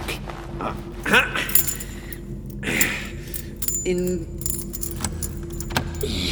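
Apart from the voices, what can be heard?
keys jangling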